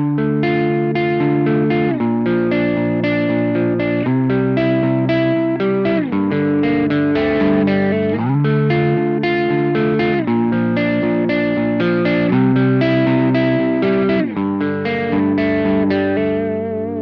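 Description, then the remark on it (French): A loud, effects-heavy instrument plays sustained chords that change about every two seconds, its signal spread wide with different left and right channels for a shimmering, chorused stereo sound, with no voices. “Donc je vais sortir un signal différent sur la voie droite que la gauche.”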